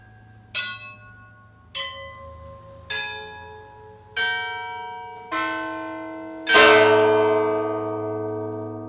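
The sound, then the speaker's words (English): Orthodox church bells from a large set, the largest weighing 6,000 pounds, ring clear: five single strokes about a second apart, each at a different pitch, then a louder clash of several bells together that hums on. “As I understand it, there are only two or three Orthodox churches in the country with large sets of bells.”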